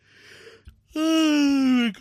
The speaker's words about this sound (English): But as you can tell, I am yawning, which means that sleep is probably not too far off.